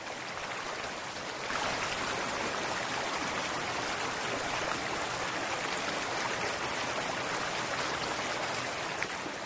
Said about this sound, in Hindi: श्रोताओं, जल मानव जीवन का आधार है, यहाँ तक कि इसकी आवाज सुनना भी मन को शांति देता है।